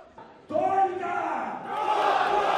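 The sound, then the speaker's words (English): A loud crowd at a fight event in Russia roars and cheers as the organiser whips it up, swelling suddenly after a brief quieter moment and holding a sustained, excited clamor of many voices. “For the organiser, whipping up the crowd, this seemingly never-ending bad news tempts more and more men and women into the ring.”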